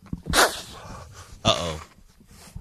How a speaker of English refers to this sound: Uh-oh. …'s sneezing. Oh, man, I'm sneezing.